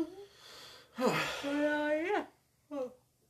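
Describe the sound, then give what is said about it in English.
A person lets out one long, drawn-out yawn, starting with a breathy intake and rising into a voiced groan, followed by a short vocal sigh. “Got the yawns. I got the yawnies.”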